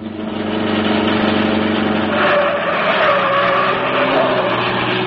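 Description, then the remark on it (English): A car roars loudly past, its engine rising in pitch as the tires let out a sustained screech, all without any voices. “Drive right past them, Cato. We'll be gone before they have a chance to reach for guns.”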